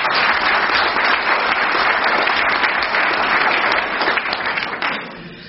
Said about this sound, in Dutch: Ik zou zeggen, toch even een applaus voor Robert Put.